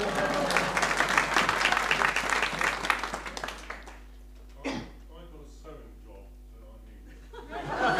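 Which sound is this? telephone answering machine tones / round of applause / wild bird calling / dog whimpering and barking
round of applause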